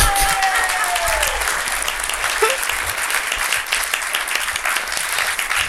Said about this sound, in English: I've got some good claps in here, hearing them. Oh, that is nice. Crispy.